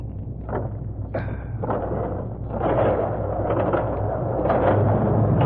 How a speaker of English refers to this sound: I'll open the door for you. Drive right in, then I'll follow and close the door.